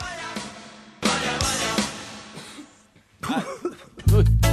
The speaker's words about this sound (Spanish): ¿Quién tose por ahí? ¿Quién tose?